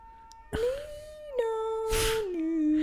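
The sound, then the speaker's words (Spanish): An ambulance siren: a loud, steady wailing tone with a buzzy edge, holding its pitch and then dropping lower in a couple of steps as it passes, with brief bursts of rushing noise mixed in. “Bueno, gracias, ambulancia.”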